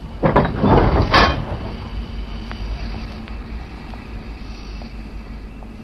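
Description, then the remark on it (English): A train pulls into a platform at Euston station, London, where the Irish Mail train for Holyhead is waiting: a loud, brief burst of rushing, hissing noise, then a steady low rumble with a faint hum and occasional soft clicks. No voices. “Here she comes, sliding into the platform where the Irish Mail is waiting.”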